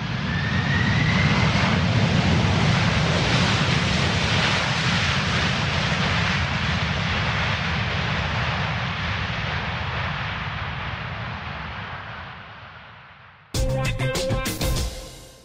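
A loud airplane engine roars past at Prague airport with a rushing drone and faint whine, slowly fading as it moves away, before the sound cuts abruptly to something else.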